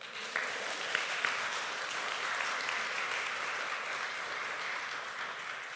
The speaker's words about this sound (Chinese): 好，我们给所有的演员一个大大的掌声吧。